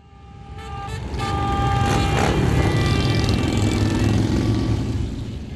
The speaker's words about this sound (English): Thousands of motorcycles roared into Washington, D.C. Sunday for the annual Rolling Thunder Ride